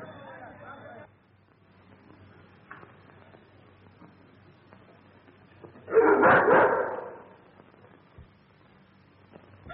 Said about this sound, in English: Your dog is frightened.